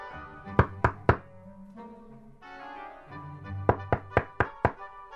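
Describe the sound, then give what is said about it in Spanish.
Two bursts of firm knocking on a wooden cabin door, first three sharp raps, then a pause, then five more in quick succession, clear over a faint background hum. “Durante un rato tus llamados no tienen respuestas. Pero por fin, Javier abre la puerta.”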